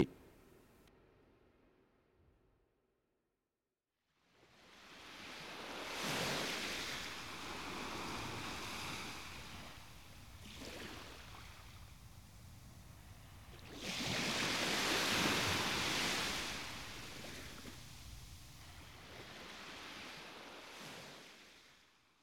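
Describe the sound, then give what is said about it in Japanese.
Ocean waves break and wash against a rocky coast at Tojinbo in broad, rolling surges, with a strong swell near the middle, all under a steady windy hiss and no voices. “俺たちこんな海岸で何してんだ。”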